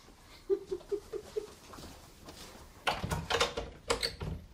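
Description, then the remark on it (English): A few soft, evenly spaced taps lead into louder clunks and a rattling latch as a door is pushed open, with no one speaking. “There's another door.”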